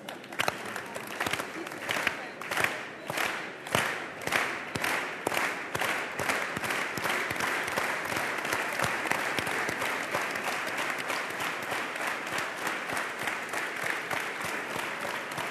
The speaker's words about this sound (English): And give yourselves a round of applause, please. How about an organized applause?